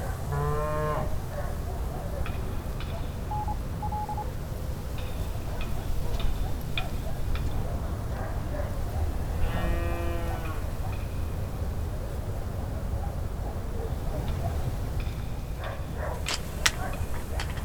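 Cows moo in the distance, two long harmonic calls a few seconds apart, over a steady rustling outdoor background with faint ticking sounds.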